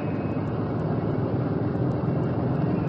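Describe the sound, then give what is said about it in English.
A bomber's number 4 engine, just started on the ground, roars steadily in a loud, continuous, rumbling drone with a dense propeller buzz that holds even throughout, with no voices; the plane can fly 10,000 miles, carry 10,000 pounds of bombs and reach 45,000 feet. “This is the power of the plane that can fly 10,000 miles and drop 10,000 pounds of bomb halfway and reach an altitude of 45,000 feet, 8.5 miles in the air.”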